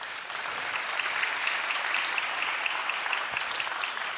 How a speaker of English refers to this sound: So there is that praise. We can clap for them. Yep.